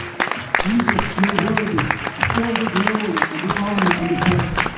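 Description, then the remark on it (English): In the evening, an audience claps their hands for the Lord in a steady, dense patter of sharp claps that runs the whole length, mixed with loud voices calling out over the applause. “Would you give the Lord one more hand clap tonight?”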